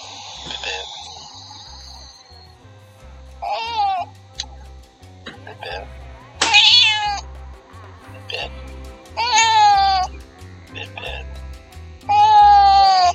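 A cat named Bip-Bip meows repeatedly, several drawn-out, wavering cries spaced a few seconds apart, clear over a low, steady rhythmic background.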